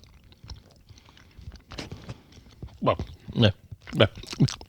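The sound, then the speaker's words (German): Wet chewing and biting on a mildly mugwort-flavoured, slightly minty candy that can be bitten without sticking in the mouth, with a handful of louder munching bursts in the second half over soft mouth noises and low murmuring. “Hier kann man auch mal abbeißen, ohne dass einem alles im Mund verklebt.”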